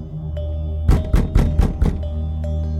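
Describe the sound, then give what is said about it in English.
Someone bangs on a front door about 10 feet away: five quick, heavy thuds in a steady, loud burst, then stillness over a constant low background hum. “It's at my front door. The door 10 feet behind this couch.”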